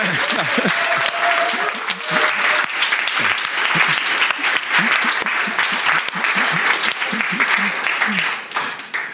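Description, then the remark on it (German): An audience applauds steadily for several seconds in celebration that Jesus is risen, a dense wash of clapping hands with some voices murmuring underneath, fading slightly at the end. “Da gibt man einen Beifall, einen Applaus, oder?”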